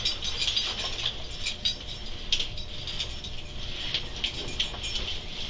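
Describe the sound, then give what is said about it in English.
Handcuffs being unlocked and taken off a man who has stood up: a run of small metallic clicks and ratcheting rattles, irregularly spaced over a few seconds at a moderate level, with no one speaking. “Why don't you go ahead and stand up, we'll get those cuffs off.”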